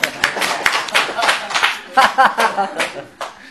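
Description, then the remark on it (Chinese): An audience claps in a dense, steady burst of applause, many hands overlapping into a crackling roar, with a few faint voices rising briefly in the middle. “大家鼓掌。”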